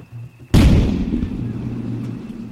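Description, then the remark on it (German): A single sudden, loud blast of gunfire erupts after a brief low hum as Hawkins and Drake's force attacks an enemy town of 8,000 inhabitants surrounded by a strong palisade, on 15 January 1568. Its heavy booming roar slowly decays into a long rumbling tail. “Feuer!”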